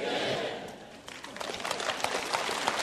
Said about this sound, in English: Listen, if that's the best clap you can give, let me just say to you, you have never fought with these things before.